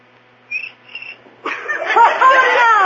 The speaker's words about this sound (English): How do you like that? A cricket with rhythm. Oh, that was just a coincidence.